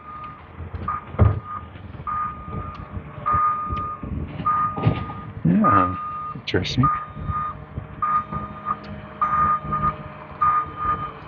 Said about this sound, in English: The street. Garbage truck.